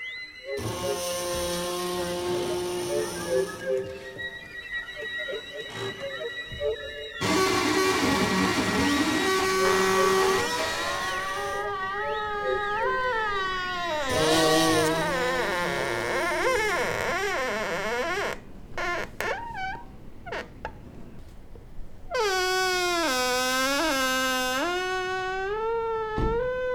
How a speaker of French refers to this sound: Vous entendrez le bruit des fourneaux, les sifflements de la vapeur.